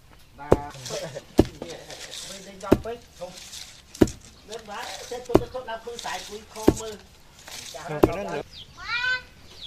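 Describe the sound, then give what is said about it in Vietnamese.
Rice is pounded with a pestle in a steady, even rhythm to separate the husks, about eight sharp, heavy thuds spaced roughly a second and a third apart, while a person talks over the beats. “Giã gạo phải giã đều tay.”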